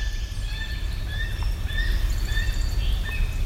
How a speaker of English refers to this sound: A gull. It sounded like kind of a gull, yeah.